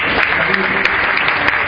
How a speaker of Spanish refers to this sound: Un aplauso.